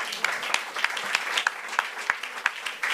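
An audience claps steadily, a dense wash of many hands with sharper individual claps popping out every fraction of a second, sustained throughout at a moderate level with no talking.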